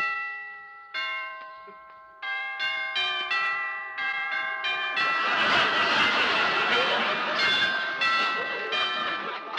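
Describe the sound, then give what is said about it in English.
A doorbell of a fourth-floor apartment in an apartment house chimes a string of clear, resonant tones in a repeating melodic pattern, loud, with a busy, noisy background swelling up partway through. “I'll ring the bell and see.”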